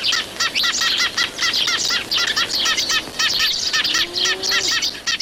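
A busy flock of Eurasian tree sparrows (Passer montanus) chirps nonstop, with rapid, overlapping short calls from several birds, fairly loud, with no voices present.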